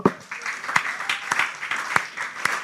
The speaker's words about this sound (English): Okay, should we clap together?